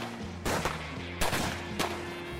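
sound effect, gunfire exchange

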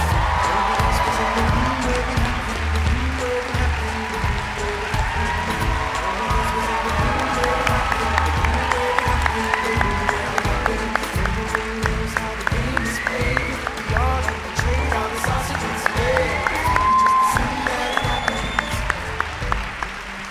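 crowd, audience applause and cheering

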